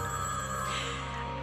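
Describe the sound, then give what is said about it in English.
A telephone rings steadily for the whole moment, a bright, buzzing electronic trill that stays loud with no voices over it. “Answer the phone.”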